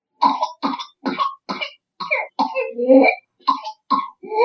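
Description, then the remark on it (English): A child's whooping cough from pertussis: a rapid run of short, harsh coughs, a long high-pitched whooping gasp for breath, then another burst of coughs. Loud, with no talking. “Well, that's a whooping cough, so that's going to be D, pertussis.”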